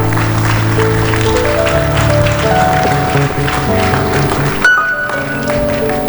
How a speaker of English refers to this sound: Let's rise to our feet. If you want to clap, clap. Don't threaten.